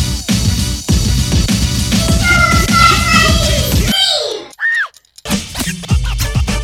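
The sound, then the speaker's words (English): A crowd screams loudly and continuously for a few seconds, then the din cuts off, leaving a couple of rising, wavering shrieks before the noisy yelling starts up again. “This show won't start till I hear you scream.”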